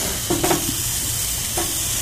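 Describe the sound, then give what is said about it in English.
Hamburger patties sizzle steadily on a grill, a constant crackling hiss, with a few brief scraping knocks from a spatula as the burgers are given their last flip. No one speaks. “All right, burgers are on the last roll here. Or last flip, rather.”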